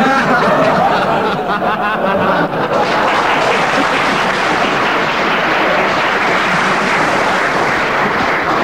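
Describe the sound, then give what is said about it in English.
An audience applauds loudly and steadily for several seconds, a dense wash of clapping with what sounds like some laughter mixed in near the start. “The applause sways me to 4 points for that”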